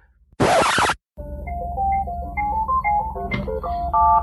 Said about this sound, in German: Hier klingelt mein Telefon.